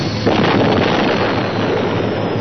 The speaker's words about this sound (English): Then a new sound made Lando forget about 3PO. It was the muted roar of an explosive decompression.